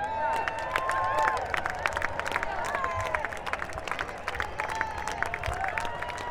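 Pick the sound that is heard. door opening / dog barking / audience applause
audience applause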